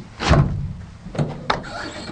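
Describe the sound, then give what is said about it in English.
The heavy solid-steel door of a 2,000-pound steel room swings shut with a broad whoosh, followed by two sharp metallic clunks and a faint, sustained squeaky hum as the door is sucked in to make an electrical seal. “So that squeaky noise was actually sucking the door in to make an electrical seal.”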